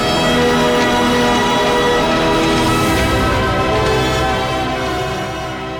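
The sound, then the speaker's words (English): A steam locomotive with a tall black chimney and a polished brass steam dome races past through open countryside, trailing a plume of white steam, a loud, dense rush of rumbling, rattling and hissing that holds steady for several seconds before easing slightly as it moves on. “The train races through open countryside, leaving a billowing plume of white steam in its wake.”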